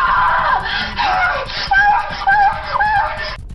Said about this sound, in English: All right, listen to this next one and let us know, is it a sexy or scary scream?